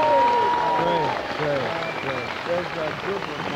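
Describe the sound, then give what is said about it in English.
A crowd applauds steadily as the medics of a medical unit are introduced to them, the dense clapping mixed with scattered shouts and cheering voices, loud throughout before easing slightly near the end. “And the medics are being introduced to the crowd, and everybody is digging them.”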